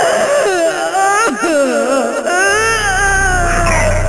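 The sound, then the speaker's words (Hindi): Surpanakha, disfigured and humiliated by Rama and Lakshmana, wails and cries loudly with her face hidden on reaching her brothers in Dandakaranya: long, wavering, high-pitched sobs that rise and fall without pause, with brief catches in the voice and a low rumble joining toward the end. “वो रोती कलपती अपने भाइयों के पास दंडकारण्य पहुंची और मुंह छिपाकर चीत्कार करने लगी।”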